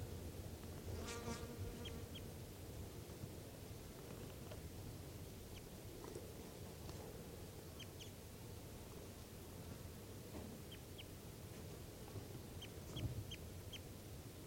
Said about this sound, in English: Both birds calling there. And 387 just lightly responding, but probably not recorded very well. Mostly the wild birds here.